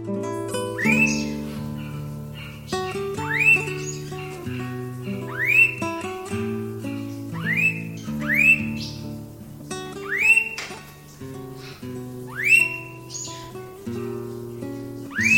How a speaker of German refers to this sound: Das war der Blauohr-Honigfresser.